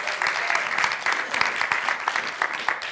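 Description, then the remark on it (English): An audience claps hands in praise to God, a dense, steady burst of many overlapping claps filling the room at moderate loudness, with no voices standing out. “Give God a hand clap of praise on that one.”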